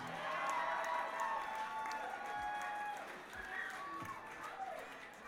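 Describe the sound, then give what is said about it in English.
An audience at the Galactic American Music Hall applauds itself steadily for about five seconds, a dense wash of clapping mixed with scattered cheers, whoops and indistinct crowd voices, holding a fairly even loudness throughout. “And give yourself a hand.”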